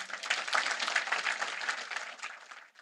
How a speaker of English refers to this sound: And that was one of her biggest applause lines.